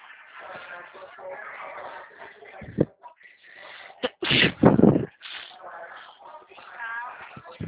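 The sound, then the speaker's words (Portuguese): A loud sneeze bursts out midway through, preceded by a brief sharp intake or smaller burst, with a person talking before and after it. “Não vou nem espirrar.”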